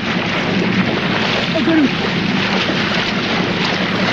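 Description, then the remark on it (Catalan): Loud, continuous splashing and churning water as a man who jumped from a small boat wrestles a crocodile in the water at night in Australia, a steady rushing wash that barely lets up, with a brief surge partway through and a faint voice underneath. “O sigui, aquest xipolleig és ell dins l'aigua abraçant un cocodril, eh?”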